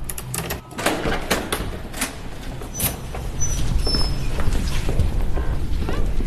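A heavy steel door opens at an art museum, where it blocks a restricted area behind the exhibition halls: a series of sharp mechanical clicks and clunks, then a sustained rumbling scrape with a brief metallic squeal as it swings.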